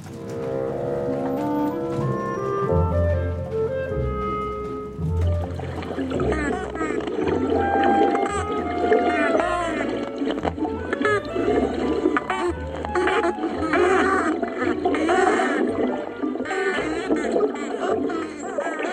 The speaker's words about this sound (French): Là, ce sont des dauphins, pas des canards. …, cétologue, autrice du livre « Dans la peau des dauphins ». C'est deux groupes de dauphins qui se font face. Et en fait, ces squawks, ce qu'on appelle squawks, sont vraiment intenses.